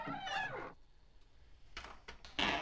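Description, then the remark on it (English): A high, drawn-out squeal as the door of an old vault creaks open rises and bends in pitch, followed after a pause by several shorter scraping creaks, the last one loud. “Okay, just so you know, first of all, that's the squeakiest door I've ever...”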